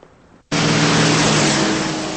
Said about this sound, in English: It's dark and the streets are wet as Matt follows Laura in her car.